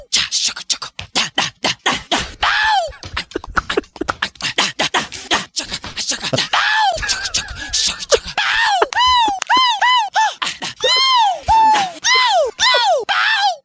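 A rapid montage of a singer's wordless vocal sounds: sharp clicks, breathy gasps and hiccups at first, then a string of loud, high, swooping yelps and whoops in quick succession.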